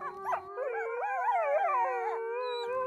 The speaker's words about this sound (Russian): Итак, это началось. Зимний вечер, белое заснеженное поле, маленький домик и поодаль волчий вой.